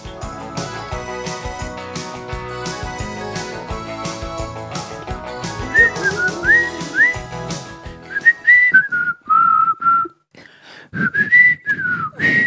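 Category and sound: human body sound, human whistling a tune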